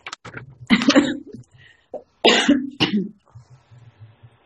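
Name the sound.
cough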